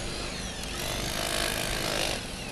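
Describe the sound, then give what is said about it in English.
A power drill grinds steadily into the ground as miners dig for gold in a craggy ravine, a continuous rough mechanical whine with gritty, churning texture, loud throughout with no talking. “The ninjas use metal detectors to find a good spot and then dig away with shovels and power drills.”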